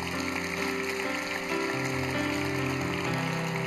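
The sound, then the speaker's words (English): An audience applauds to welcome first-time guests, in a steady, dense wash of clapping that holds at an even level throughout, with sustained musical tones running underneath. “Give them a big, big hand clap.”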